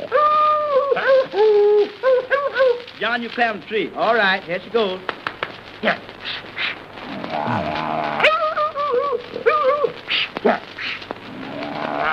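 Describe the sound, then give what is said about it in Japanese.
On a single record, one performer's voice mimics a dog chasing a cat, switching between barks, whines and yowling meows in rapid, pitch-sliding bursts, with heavy breathing and scuffling noises mixed in. “これなんかね、猫とのチェイス、 うんうん、うわ ー、ね、 すげ ー。”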